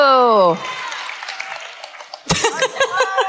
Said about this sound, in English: Now you know to applaud. What if it never happened before and I just really wanted to be applauded while I sit down? Now applaud! You have to! You have to!